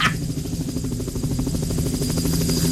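A helicopter drones steadily, its rotor beating in a fast, even chop over a low engine hum, loud and constant throughout with no voices.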